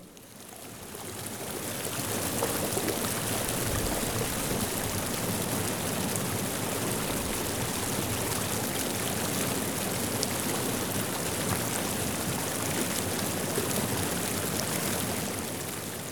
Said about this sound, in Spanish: El sonido del río es el sonido del corazón de la tierra.